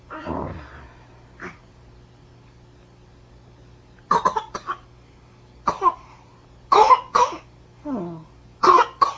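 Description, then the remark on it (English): A baby coughs in a series of short, dry bursts, some coming in quick pairs, spread over several seconds against a faint low hum. “You got a little cough? Poor baby.”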